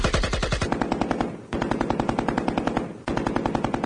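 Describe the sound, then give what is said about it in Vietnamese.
Sustained bursts of AK rifle fire and M60 machine gun fire, rapid crackling shots in long rhythmic volleys with brief pauses between bursts, loud, with no voices. “Hàng loạt đạn AK nổ ròn như bắp rang. Những khẩu đại liên M60 cũng lập tức trả đũa.”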